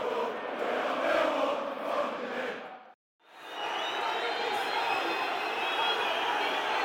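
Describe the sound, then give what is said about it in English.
A big Millwall football crowd at The Den roars and whistles loudly and continuously in added time, baying for the final whistle with Millwall leading 1-0, a dense wall of voices that cuts out briefly midway before surging back just as strong. “Crowd baying for the final whistle.”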